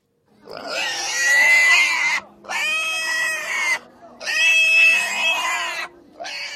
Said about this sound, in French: Qu'est-ce qu'on entend ? Là, je pense que c'est un cochon qu'on égore.